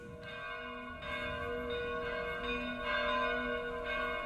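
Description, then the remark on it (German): Several small medieval choir bells of Halberstadt Cathedral, dating from the 12th to 16th centuries, ring together in a continuous, overlapping peal, some with almost the same tone, with bright sustained tones and fresh strikes every second or so, with no voices. “Das sind jetzt die Glocken vom Halberstädter Dom. Man merkt, da sind Glocken, die Chorglocken, nicht die großen.”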